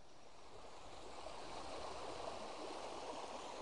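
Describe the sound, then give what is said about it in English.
A babbling stream, Thornthwaite Beck, rushes steadily under a small, narrow stone packhorse bridge, its continuous bright splashing and gurgling water filling the scene with no voices. “As we've reached the bottom of the hill, we've made it to Thornthwaite Beck and this lovely little packhorse bridge.”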